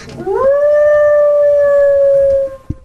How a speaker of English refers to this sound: came across his coyote, and it raised its head and howled out loud in his backyard.